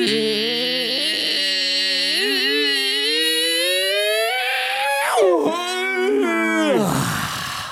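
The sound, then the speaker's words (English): A long, loud squeaky door noise made by a tree: a drawn-out, whining creak that slowly rises in pitch, then breaks into a few quick squealing dips before fading out. “I know it's the genuine Rhys because the second he woke up, the tree made a squeaky door noise.”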